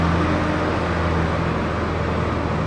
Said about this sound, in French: Et c'est là que les camions donc arrivent de toutes les coopératives. Il y a à peu près 62 qui sont affiliés. Ici, à Palin, eh bien, les camions apportent, on les entend derrière moi.